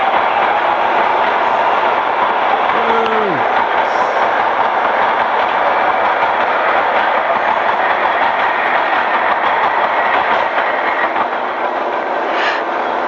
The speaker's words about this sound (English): Here comes the train then. I'm going to stand by and not get hit by this. Make sure you stand behind the yellow line.